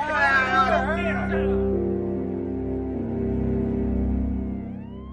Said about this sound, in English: To me, the sound of an ambulance siren is still a little frightening.